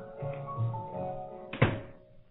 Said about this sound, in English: There's too much noise around here. Will you wait till I shut the door, please?